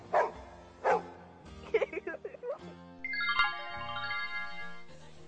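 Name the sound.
dog barking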